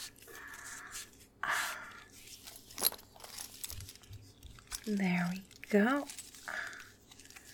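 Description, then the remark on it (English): A series of buckles being fastened on straps as someone is strapped up firmly: scattered sharp clicks, rustles and faint metallic snaps at an uneven pace, with a brief spoken phrase partway through. “I'll strap you up all nice and firm now. There's so many fucking buckles.”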